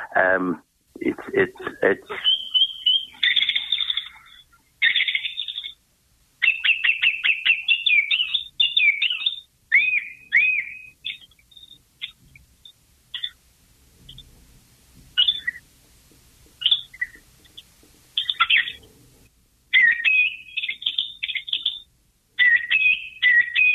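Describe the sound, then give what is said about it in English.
A song thrush sings loud, clear phrases, each one repeated two or three times before switching, with short pauses between bursts. Bright, no other sounds. “The song thrush, by the way, if you find a stone in your garden or a piece of concrete”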